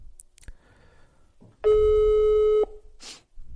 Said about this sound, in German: Mal kurz den Handy anrufen, ey. Kurz fragen, was wir jetzt machen.